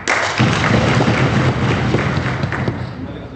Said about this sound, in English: Just the other day, a town called Chakwal elected its public safety commission. The winners stood in the local council chamber, and voters applauded the results by pounding on the wooden desks where they sat.